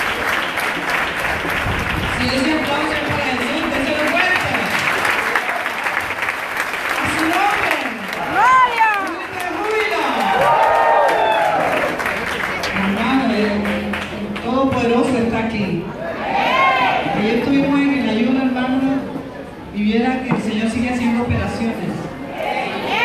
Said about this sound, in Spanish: Dele aplausos a Dios por todo este tiempo que vivimos.